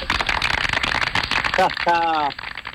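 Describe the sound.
Steady applause welcoming a guest fills the whole stretch, a dense crackle of many hands clapping at once, with a couple of short voiced whoops or cheers rising over it near the end.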